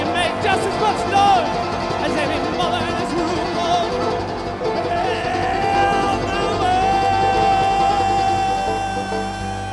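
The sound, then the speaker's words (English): A large concert crowd on two levels voices the same sound together in unison, a dense, steady wall of many overlapping voices holding pitched tones, loud and continuous from start to finish. “Know that we can unify both of these levels of crowd here if we all make the same sound together.”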